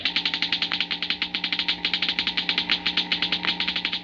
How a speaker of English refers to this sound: The crackling comes from a model atom smasher, similar to large models used in treating deep-seated cancer and sterilizing foods and drugs.